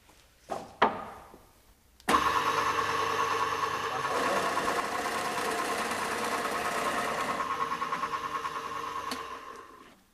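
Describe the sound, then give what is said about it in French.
A couple of soft clicks, then a drill press motor starts abruptly and runs loudly with a steady humming whine for about eight seconds before beginning to wind down. “Là, on a la perceuse colonne, non ?”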